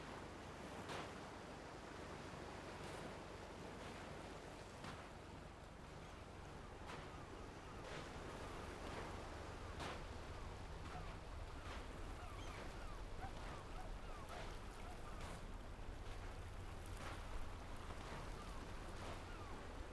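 Soft, steady wash of autumn ocean surf rolling in continuously at a quiet beach with no people, with faint repeated swishes of gentle waves breaking at an even pace and a light breeze in the background, no voices.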